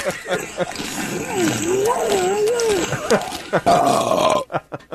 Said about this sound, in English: There's such a strain at the end there. He had to play like the last 3 seconds right before the burp. It's almost like a whimper.